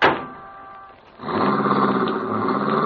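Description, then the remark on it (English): A car engine turns over and catches, then settles into a steady, loud running hum as George's car pulls away, with no voices. “Oh, I'll turn around. Don't be a fool! Keep driving, boy!”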